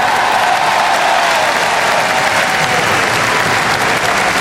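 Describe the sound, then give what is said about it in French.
A large stadium crowd at Roland-Garros, with many Tunisian flags, applauds a tennis player steadily after a match win, a dense wash of clapping that stays loud and continuous throughout, with no voices standing out. “Tu vois tous les drapeaux tunisiens, ce public pour toi qui est là, qui t'applaudit.”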